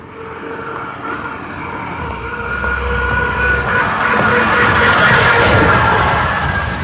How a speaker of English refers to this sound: Garbage truck.